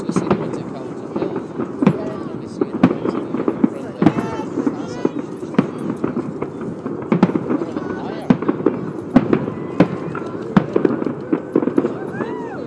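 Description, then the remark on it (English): New Year fireworks launched from Calton Hill and the castle explode in a rapid, irregular barrage of sharp cracks and booming bangs, some loud, over a steady background of crowd voices and murmuring from Princes Street. “So the fireworks going off from Calton Hill.”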